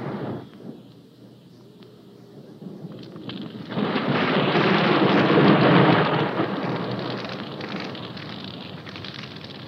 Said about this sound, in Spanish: Por suerte, en ese momento comenzó a llover y el agua enfrió los ánimos de todos.